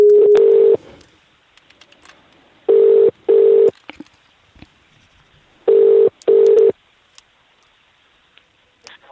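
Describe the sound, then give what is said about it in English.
A telephone ringing tone purrs through an earpiece in three double bursts, each pair spaced a few seconds apart, with quiet line hiss in between and no one speaking. “It's the phone call, unedited”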